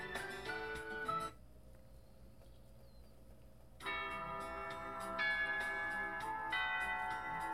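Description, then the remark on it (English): A school bell chime plays a ringing electronic melody of sustained tones, breaks off into a low hum for a couple of seconds, then resumes its chiming. No one speaks. “That bell rings a hell of a lot.”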